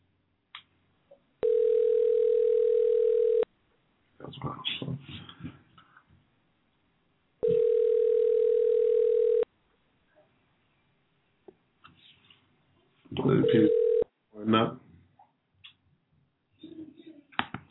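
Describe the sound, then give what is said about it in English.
During a prank phone call, the line rings on the other end: two long, steady buzzing ring tones about two seconds each, separated by a pause, with scattered short chirpy bursts and clicks in between. “This is how you prank phone call a hood next.”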